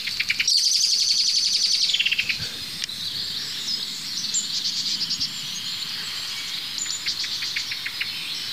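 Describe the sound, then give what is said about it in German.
A blackbird gives a burst of rapid, agitated alarm calls, then keeps scolding more faintly over a steady high outdoor chorus of insects and other birds. “Die Amsel ist immer noch aufgeregt, wie ihr hört.”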